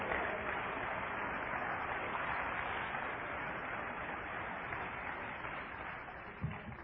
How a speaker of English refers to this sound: Come on, let's clap our hands and praise Him.